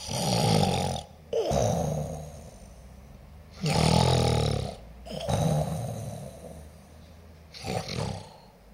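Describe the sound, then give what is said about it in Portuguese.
Loud, rough snoring from someone sleeping with an open mouth: long rasping breaths repeat in slow cycles with brief quiet gaps between them. Nobody speaks. “Pois à testa e adormece pagá, de boca aberta, ronca a nascente.”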